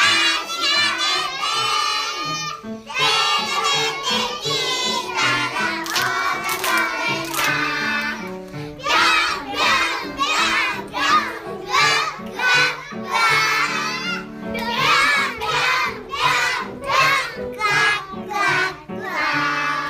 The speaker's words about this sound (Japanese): 今日はそんなオタマジャクシに変身して、子どもたちが元気にオタマジャクシの歌を歌います。どうぞお聴きください。